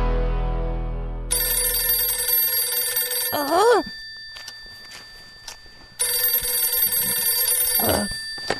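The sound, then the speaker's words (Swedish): A telephone bell rings loudly in two long, rattling bursts separated by a few seconds of quiet, with brief faint sounds in between; an incoming call in the radio drama Gunvor och gänget. “Ringer jag och stör dig?”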